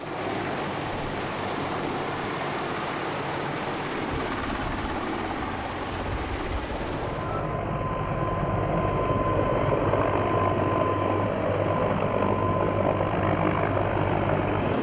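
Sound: helicopter rotor noise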